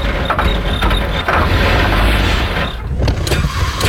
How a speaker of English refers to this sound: In case of a dead battery, flat tires, Oh, man. Engine trouble.